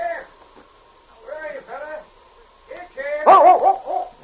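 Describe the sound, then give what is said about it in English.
A dog barks and yips in several short, bright bursts spread across the moment, growing louder and more insistent toward the end. “Nice dog. Come on, fella. Good dog.”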